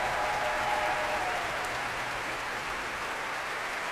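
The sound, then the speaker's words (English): Sustained applause from a large audience at a concert by a young orchestra after a Shostakovich piece, the last swell for the orchestra's leader, Yulia Kopilova; a dense, steady patter of clapping that holds at an even level for several seconds without any voices. “That last swell of applause was for the leader of the orchestra, the Russian Yulia Kopilova.”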